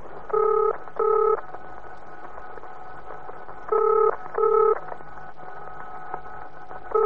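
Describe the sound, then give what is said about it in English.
Touch-tone beeps as a telephone is dialed: two quick pairs of clear tones separated by a pause, then one more, over a faint steady background hum with no voices. “Where's that phone? I'm going to phone her, find out what this is all about.”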